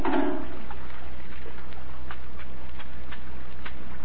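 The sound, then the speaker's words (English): A brief splashy slosh of soapy water made with kitchen soap, used for washing, then scattered soft drips and light patters against a low, steady background hum. No one speaks. “Come on now, hand me that soapy water.”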